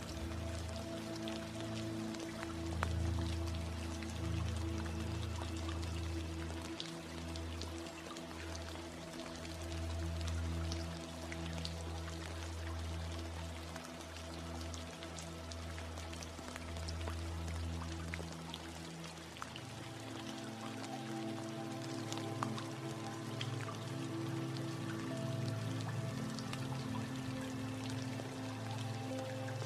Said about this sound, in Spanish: Escucha la lluvia, que fuera lo nutre todo. Nutre la tierra, los árboles y las plantas, y todo se llena de vida.